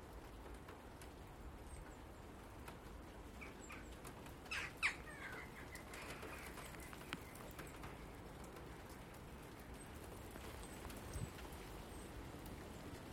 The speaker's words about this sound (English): A small group of birds just went by. I think it was jackdaws up top. Not the ones that were low level there, but higher level ones, and they were flying with the wind and must have been doing 60 mile an hour at least. Woof, straight over.